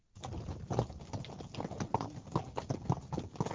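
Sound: horse hooves clip-clopping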